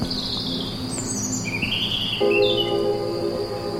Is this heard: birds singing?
yes